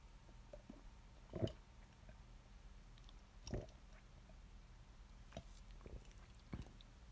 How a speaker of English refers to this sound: Hold on, I gotta take a sip of water, bro. My throat is dry.